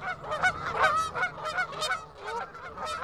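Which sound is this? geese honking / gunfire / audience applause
geese honking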